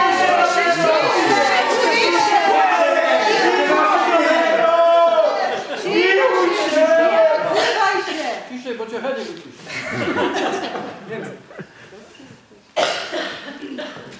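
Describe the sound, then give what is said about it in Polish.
An audience shouts "zamknij się!" (shut up) together loudly as someone cries "Jezusie, Synu Dawidowy!", an overlapping clamor that swells for several seconds, then breaks into scattered calls and laughter before one last burst. “On będzie teraz krzyczał, a wy mówcie: zamknij się!”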